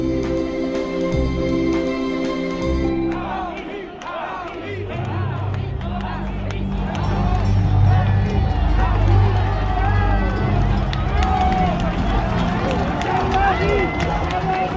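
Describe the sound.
A large outdoor crowd at the traditional 1 May parade in honour of Joan of Arc in France, cheering Marine Le Pen, fills the air with overlapping voices, chatter and occasional shouts, a steady, fairly loud hubbub that follows a few seconds of sustained droning tones at the start.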